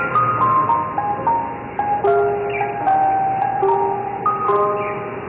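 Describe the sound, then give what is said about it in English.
A tinny, chiming ice cream truck jingle plays a bright, bouncy melody of sustained electronic notes, loud, with no voices over it. “But a big ice cream truck bust went down in Gotham.”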